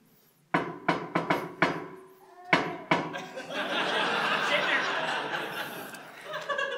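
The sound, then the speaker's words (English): A family's secret knock rhythm: five quick sharp knocks, a short pause, then two more, after which a burst of laughter and lively chatter takes over. “This is the secret knock.”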